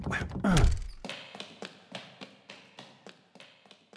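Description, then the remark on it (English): A stuck door that won't open is shoved with one heavy thud, then thumped in a quick, steady run of about a dozen rattling knocks, fairly loud. “Crap, well, won't this freaking door open?”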